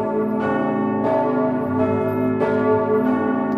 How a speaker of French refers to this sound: Ce matin, 1 minute de silence a été observée et toutes les cloches du diocèse de Nice ont sonné le glas.